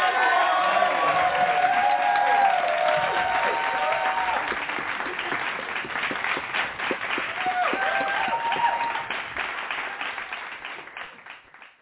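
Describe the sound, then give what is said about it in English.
An audience breaks into sustained hand clap praise, many hands clapping densely with some cheering and voices mixed in, holding strong for several seconds before gradually thinning out, welcoming the teacher of a lesson from Basic Theology by Charles C. Ryrie. “So we're going to welcome her with a hand clap praise.”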